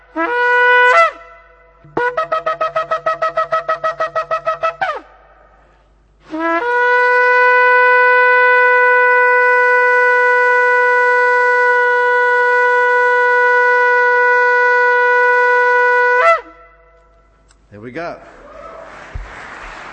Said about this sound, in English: Let's see if I can blow the ram's horn myself. First time for the season.